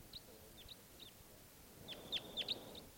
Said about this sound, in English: Heard a greeting song or something of a crossbill.